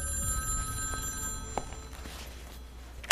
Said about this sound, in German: als das Telefon klingelte.